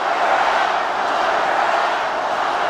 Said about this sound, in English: It's the very familiar lock her up chant. As the president speaks, the vibe in the crowd is festive, fun